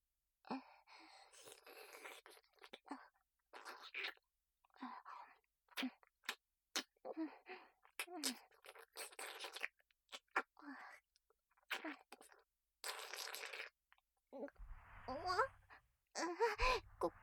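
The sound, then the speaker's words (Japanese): Intimate wet mouth sounds: repeated licking and slurping in uneven bursts, mixed with soft breaths and murmured sighs, with brief quiet gaps between strokes, as the underside is thoroughly licked clean. “裏側もしっかりと舐めて、きれいにしなきゃですね。”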